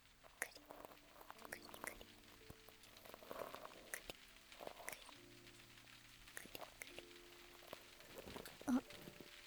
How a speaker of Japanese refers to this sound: 雨だ。さっきまでいいお天気だったのにね。これは結構長く降りそうだね。